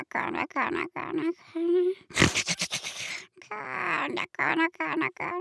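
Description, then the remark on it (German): A voice imitates a hen snoring with a string of playful grunting, snorting and whistling sounds, including one harsh rasping snort in the middle, fairly loud. “Das flinke Huhn lag mit ausgebreiteten Flügeln im Stroh und schnarchte so.”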